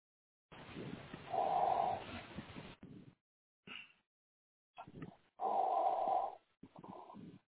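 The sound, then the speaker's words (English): Heavy, raspy breathing right up against a microphone: two long, loud, wheezing breaths with a hoarse hum to them, separated by shorter snuffling puffs and clicks. No one speaks. “That would get somebody breathing. Yeah, sounds like Darth Vader.”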